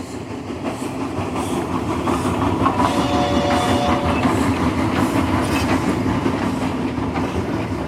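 A train clatters steadily along the rails, a continuous rolling rumble with rhythmic wheel clacks and faint metallic squeals, unbroken for the whole stretch, with no voices.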